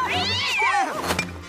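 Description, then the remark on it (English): Cats yowl and screech in alarm, startled by a dog barking behind them, their rising, wavering cries overlapping loudly, with a low hum beneath; no one speaks. “He barks behind the cats, and they jump straight in the air.”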